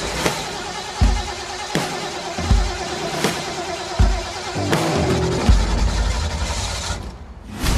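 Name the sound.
old truck engine running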